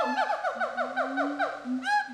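gibbon calls

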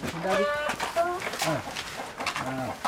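chickens clucking

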